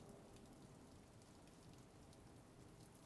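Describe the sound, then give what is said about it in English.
Soft, steady rain drums on rooftops and windows, a dense patter of drops that stays low and even throughout with no voices. “I can't say it's pleasant outside in this weather, but at night, when I'm with you, just listening to the soft drumming of rain on housetops and windows, it's almost bearable.”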